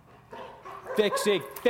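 A police dog barks several times in quick, sharp, loud bursts, with short yelping calls building over a couple of seconds, as its handler sends it on command to engage a person.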